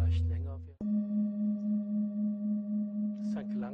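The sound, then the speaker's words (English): A higher-toned singing bowl is struck and rings with a clear, sustained tone that wavers in slow, steady pulses. Brief bits of a voice are heard just before the strike and as it fades. “Maybe you will notice that the sounds of the singing bowl change. They are prolonged. They become more pure.”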